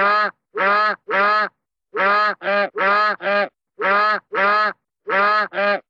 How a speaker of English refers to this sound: Peaches alleging that her husband kept an African goose, which honked constantly, in the bedroom